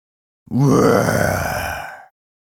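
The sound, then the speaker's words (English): In a stage performance of Pyramus and Thisbe, the person playing the lion growls out a single long, low roar as Thisbe runs from the lion. The roar is rough and throaty, starts loud and slowly fades over about a second and a half, with no other talk. “The lion roared well.”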